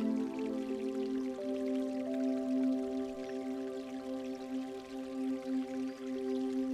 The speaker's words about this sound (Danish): Du fortsætter af stien lidt endnu og når frem til bækken. Vandet er rent og klart og strømmer hen over stenene og nogle væltede træstammer.